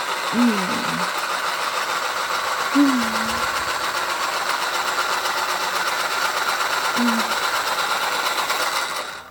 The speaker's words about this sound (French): Moi, je trouve qu'il y a un bruit de moteur.